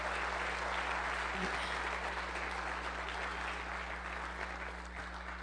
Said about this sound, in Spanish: dele un aplauso fuerte al Señor. Aplauda fuerte al Señor.